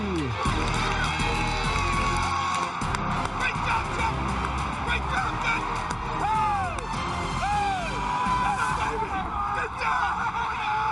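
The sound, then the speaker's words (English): A big stadium crowd of Houston Texans fans roars and cheers without letup for about eleven seconds, cheering rookie Alfred Blue after a blocked punt is recovered for a score at an NFL opening-day game, a dense wall of voices with shrill whistles sweeping up and down through the din. “And the fans are cheering Blue.”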